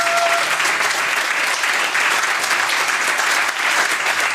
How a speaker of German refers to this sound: Ja, ihr dürft Applaus geben. Gerne, gerne, gerne.